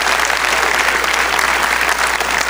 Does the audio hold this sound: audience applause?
yes